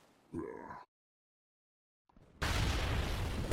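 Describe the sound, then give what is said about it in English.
A short vocal grunt, a moment of silence, then a sudden loud grenade explosion that bursts in and keeps roaring as a dense, rumbling blast to the end. “What caused that explosion? One of your despicable weapons? It's called a grenade.”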